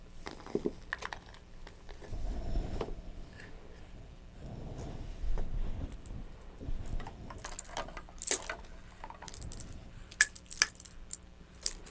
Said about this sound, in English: Do you like those keys? Shake. Shake.